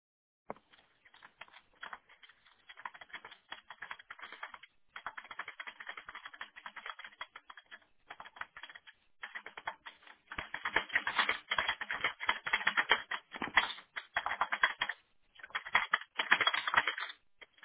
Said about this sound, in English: I'm over here beating up my keyboard.